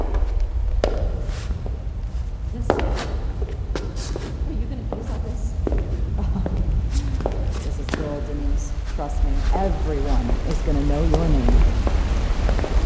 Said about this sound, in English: Follow the sound of the falls. This is it, this way.